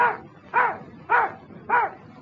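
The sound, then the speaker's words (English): A dog named Toby barks four times, counting to four on command, in a steady, evenly spaced rhythm, each bark short and mid-pitched with a slightly whining tone, alone without any talking. “You is a smart dog. Count four.”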